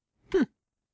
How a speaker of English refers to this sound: Is it what? I'm sorry. I sneezed.